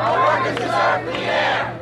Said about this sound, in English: A recent public hearing on the smoking ban drew a large, passionate crowd to New York's City Hall.